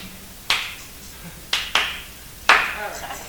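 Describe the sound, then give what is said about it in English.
Four sharp hand claps, spaced unevenly: one, then a quick pair, then a final louder clap, each ringing briefly against a quiet background. “if you clap, you gotta clap like this here.”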